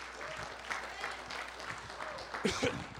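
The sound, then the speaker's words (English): An audience claps their hands one more time to thank God after a prayer, steady, dense applause, the many overlapping claps forming a continuous crackling wash, with a few voices calling out beneath it. “Would you just clap your hands one more time?”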